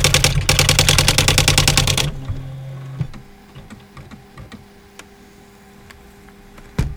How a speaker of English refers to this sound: Now we got a typewriter sound. Sometimes you will get these sounds.